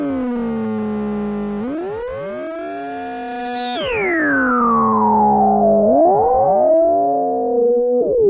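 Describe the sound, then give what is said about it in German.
A loud, continuous one-minute wailing civil alarm siren tone, meant to alert the population of the Federal Republic of Germany to terrorist attacks, kidnappings and similar violent acts. Its pitch sweeps down and back up in long glides with several layered tones and no voices. “Mit einem einminütigen Sirenenheulton soll die Bevölkerung in der Bundesrepublik künftig bei Terroranschlägen, Entführungen und ähnlichen Gewalttaten alarmiert werden.”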